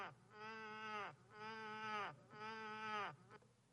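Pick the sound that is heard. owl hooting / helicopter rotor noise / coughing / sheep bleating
sheep bleating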